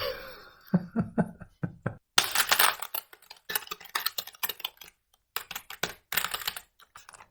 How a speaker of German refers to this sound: Oh, jetzt habe ich das Gefühl, du hast ein ganz langes Wort gesucht. Ja, obwohl ich sehr, sehr lange getippt habe. Das Wort ist eigentlich ganz kurz.